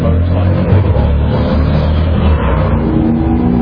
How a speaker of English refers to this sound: There's a muscle car racing a motorcycle right outside the window here. And the point, the reason I'm highlighting it, not just ignoring it, both of those engines, the muscle car and the motorcycle, were built for power and speed.